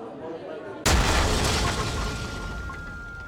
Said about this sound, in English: A massive explosion has ripped through a busy cafe in the Moroccan city of Marrakesh, killing at least 15 people and wounding 20 others.